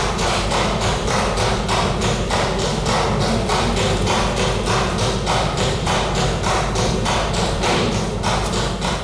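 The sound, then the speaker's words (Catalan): A deputy in a parliamentary chamber strikes a pen rapidly and repeatedly on the desk at his seat, interrupting a minute of silence: a steady stream of sharp knocks about two or three per second, continuing without pause against a constant background hum. “Ha interromput el minut de silenci pegant cops amb el bolígraf damunt la taula. Era aquest so que sentíem des del seu escó.”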